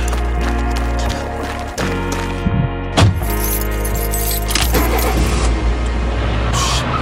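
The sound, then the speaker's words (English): A car engine runs with a steady low rumble while keys jangle and rattle, with a few sharp clicks and knocks over the constant drone. “Fucking car.”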